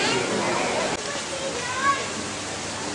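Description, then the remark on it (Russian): A steady wash of splashing water and children's voices from a pool where children are swimming, at a beach resort complex, carries on throughout, with faint shouts rising briefly in the background. “И тут же, если мы посмотрим, что в стороне, а вот в стороне уже бассейн. Дети купаются.”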